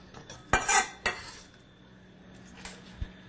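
Onions are tipped into a pan of vegetable broth with a burst of metal-on-pan clatter and scraping, a second sharp clink, then near quiet with a couple of faint taps.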